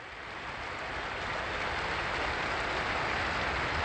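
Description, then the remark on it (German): A large crowd breaks into sustained applause, a dense, steady patter of many hands clapping that swells slightly and holds at full strength, with no voices heard over it. “Und grüßen wir sie aber jetzt mit einem herzlichen Applaus.”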